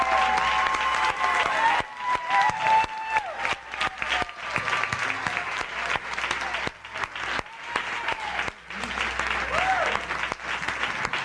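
An audience claps their hands for their church leaders in sustained, dense applause, with cheering voices and shouts mixed in throughout, loud and steady with brief dips.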